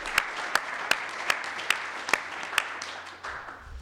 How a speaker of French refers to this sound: Et puis on n'a pas applaudi notre délégué général, alors on le fait quand même, non?